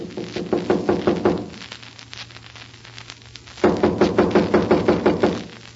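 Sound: knocking on a door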